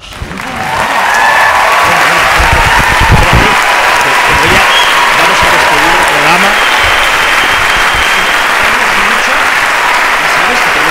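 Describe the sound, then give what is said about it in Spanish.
Sustained audience applause for Natalia Millán swells up within the first second and holds steady as a loud, dense wash of clapping, with a few indistinct voices and shouts mixed in. “Ese aplauso, por vosotros.”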